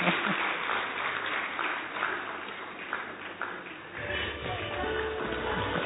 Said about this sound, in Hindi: जोरदार तालियां इन बच्चों के लिए।